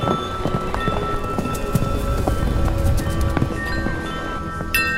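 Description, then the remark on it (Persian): A steady shuffle of many footsteps and hoof-like thuds, like a caravan passing by, with a hissing, rain-like wash and faint sustained tones underneath. “صدای پای کاروانیان است.”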